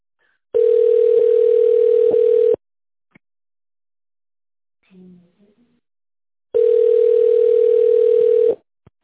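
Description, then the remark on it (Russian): A telephone ringback tone heard while waiting for an operator at the leasing company Delta: two steady, buzzy mid-pitched tones, each about two seconds long, separated by a long silent pause with a faint brief murmur in the gap. “Если вы знаете внутренний номер сотрудника, наберите его в тональном режиме или дождитесь ответа оператора.”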